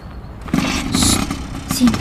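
A motorcycle engine runs with a steady, low rumble as riders get on, while muffled voices talk briefly over it.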